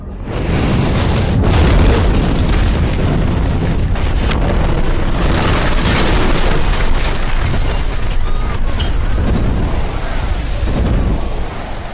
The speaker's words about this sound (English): No one had any idea of the explosive cargo that was aboard the Mont Blanc that day. I can't recall the actual sound of the resulting explosion, but I have been told that the explosion was felt up to 434 kilometers away.